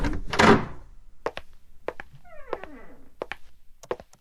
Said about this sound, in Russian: Ты просто откроешь дверь и...